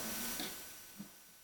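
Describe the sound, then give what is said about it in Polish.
Rain falling as a steady, soft hiss with no voices, broken by a couple of faint taps in the brief stretch. “Deszcz pada?”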